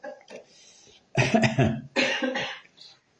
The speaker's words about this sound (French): C'est pas moi qui ai toussé, hein. Non.